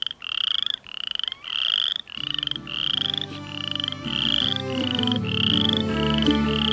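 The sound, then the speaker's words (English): Loud frogs croak in a steady rhythmic chorus of raspy, pulsing calls, one after another with no pauses, while a lower humming layer joins in partway through. “Those frogs are so loud.”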